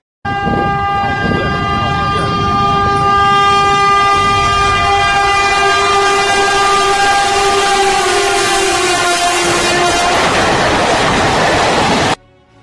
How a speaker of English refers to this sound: Again and again, the train silently stalks the forests and jungles of India, taking down its prey.